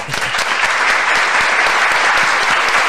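Steady, loud applause from an audience welcoming a singer being introduced at an event, a dense wash of many hands clapping at once with no pauses, filling the whole stretch without any voices on top.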